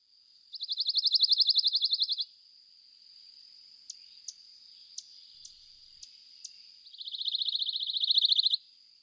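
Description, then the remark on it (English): A pine warbler sings two rapid, even musical trills several seconds apart, clear, with a thin steady insect-like hum and a few soft ticks in the gap between. “Let's hear from the pine warbler.”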